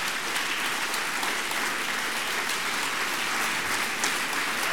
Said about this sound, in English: You realize you're applauding for God, right?